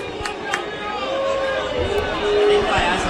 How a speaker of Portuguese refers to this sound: Vaias, torcedor vaiando o time ao final da partida.